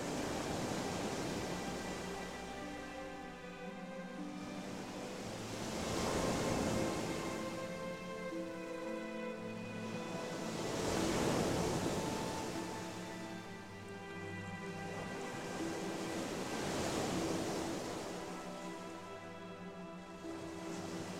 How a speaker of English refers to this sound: thank it for the thought and say, come and sit next to me on the beach, we're just enjoying the waves.